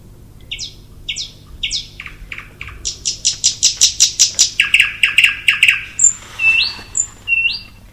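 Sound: thrush nightingale singing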